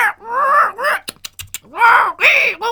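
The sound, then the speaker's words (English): A voice imitates tropical birds: long, swooping shrieks rise and fall, broken in the middle by a quick run of sharp clicks, then two more loud, wavering shrieks. “Banana-beaked birds shrieked and clicked from the hidden limbs.”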